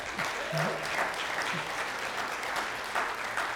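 An audience at LifePoint Church applauds its graduates steadily, a dense wash of many hands clapping at moderate volume throughout, with a few faint voices mixed in beneath the clapping.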